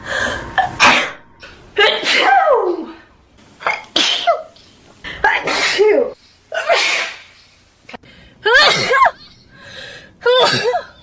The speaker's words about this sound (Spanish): ¿Es ella misma estornudando? Sí, ahí la tenemos.